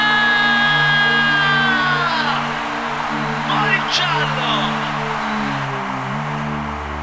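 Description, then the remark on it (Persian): An audience screams loudly and continuously for about seven seconds after being asked to scream if they had a great time tonight, high shrieking voices blending into a dense roar over a steady low hum, with a brief sharper cry partway through. “اونایی که بهشون خیلی خوش گذشته یه جیغه بلند.”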